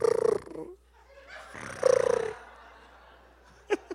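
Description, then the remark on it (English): A man imitates the purring sound his wife makes instead of snoring, with two rough, throaty rumbling bursts separated by a short pause, followed by a couple of brief clicks near the end. The voice is fairly loud. “She purrs. She doesn't snore.”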